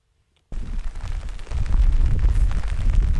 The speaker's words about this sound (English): There's the bitter cold and a driving rain in a field outside Tinnahealy. As you can hear, the ground is saturated.